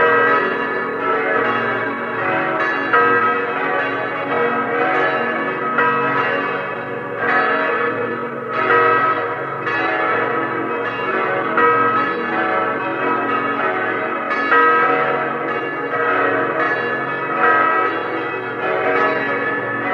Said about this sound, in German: Es ist 12 Uhr. Sie hören die Glocken der Stadtpfarrkirche Lienz in Osttirol.